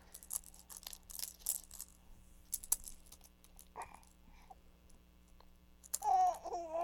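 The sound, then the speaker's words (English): A set of keys jingles and clinks in irregular bursts for a few seconds, then goes quiet before a baby's high babbling squeal near the end. “You gonna suck on the keys again?”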